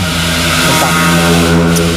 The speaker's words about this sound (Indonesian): Anjir, berisik banget motor tuh.